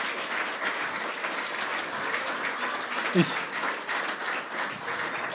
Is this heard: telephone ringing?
no